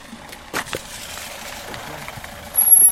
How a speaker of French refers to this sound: Tiens, une voiture passe.